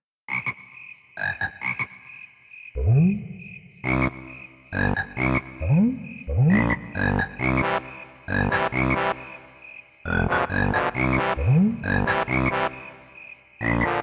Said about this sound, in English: But even the frogs have been known to sing in Banjo Land.